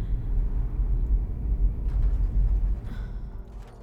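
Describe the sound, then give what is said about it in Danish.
A steady, deep rumble of a car driving from the water up a long, dark avenue lined with huge trees during a storm, heard from inside, with faint airy hiss and brief rushing sounds toward the end. No one speaks. “Her, hvor vi kører nu, der husker jeg det så tydeligt.”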